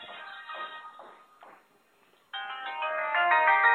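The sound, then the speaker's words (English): A cell phone ringtone plays a bright, melodic electronic tune, pauses briefly, then starts again louder and fuller, ringing steadily with no one speaking. “All right, hang on, cell phone's going off here.”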